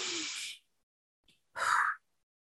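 Two deep, breathy exhalations separated by a pause of near silence, each a broad airy rush lasting about half a second, as a person takes a couple of deep breaths.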